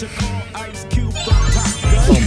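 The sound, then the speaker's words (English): A cartoon twinkle sound effect: bright, shimmering chime-like tones that sparkle and glide across roughly two seconds, fairly loud and without any talking over them. “What is Cartoon Twinkle?”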